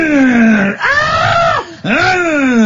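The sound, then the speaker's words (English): A voice imitates the screaming from the ending of the horror film Chainsaw Massacre, a woman held prisoner and tied up: three loud, drawn-out wailing shrieks in quick succession, unbroken by speech, the pitch sliding and bending through each cry. “Yeah, and you could just hear the screaming.”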